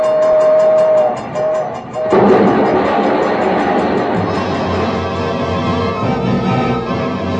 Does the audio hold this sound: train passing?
yes